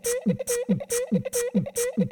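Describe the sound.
Beatboxing vocal percussion: a tight loop of breathy, snare-like bursts and low throaty thumps repeating about four times at a steady, quick rhythm, fairly loud, with no talking.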